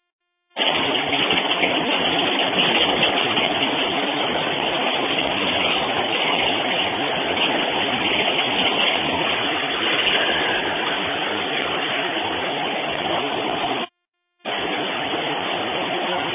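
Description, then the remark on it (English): A green regular city bus on route 269 departs at sunset, its engine a loud, steady rumble and road roar running nearly unbroken, cutting out for a split second near the end before resuming. No one speaks. “taking our green regular bus 269 at sunset, and I'm now departing.”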